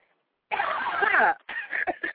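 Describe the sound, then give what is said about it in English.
After a brief silence, a person breaks into a loud, raspy fit of coughing and choking: one long strained burst, then several shorter hacking coughs in quick succession. “You ain't supposed to cough.”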